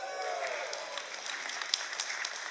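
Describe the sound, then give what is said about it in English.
A crowd claps in a steady, dense patter of many hands, a broad rustling wash of applause with a few sharper individual claps standing out, holding at an even level throughout. “For those of y'all that clapped, I expect you to contribute to her college fund.”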